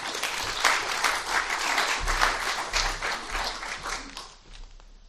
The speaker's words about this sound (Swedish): Jag tycker vi ger dem en applåd.